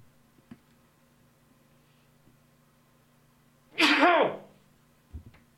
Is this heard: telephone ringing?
no